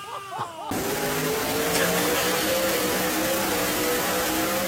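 A high-horsepower engine roars continuously at high revs during a dyno pull, loud, with steady harmonic tones rising slightly over a dense rumbling noise after a brief quieter opening.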